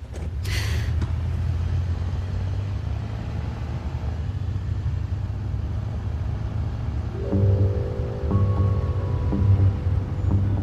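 A steady engine rumble fills the whole stretch as a car drives along, with a brief hiss near the start and the engine note rising and droning more tonally toward the end.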